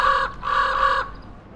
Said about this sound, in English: Excuse me, sir. Where are the Seven Ravens? Over there. I'm the Raven Master. Follow me. Here are the ravens.